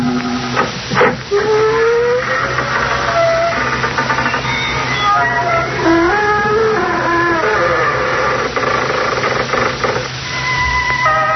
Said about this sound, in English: Good evening, friends of the creaking door.